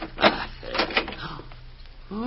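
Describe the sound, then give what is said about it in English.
A door lock rattles with a few sharp metallic clicks and clunks, then the door creaks open; a voice begins just at the end. “The door, Jay. I'll get it. Simon, just a minute. This door lock.”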